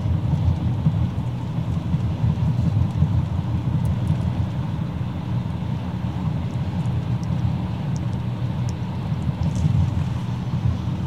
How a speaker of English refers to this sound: Here's another boat.